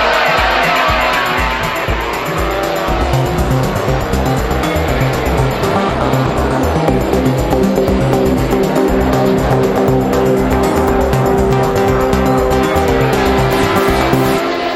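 A pack of MotoGP road-racing motorcycles roars away from the start as the race begins, loud, high-revving engines climbing and overlapping in pitch as they accelerate, a dense continuous wall of engine noise with no talking.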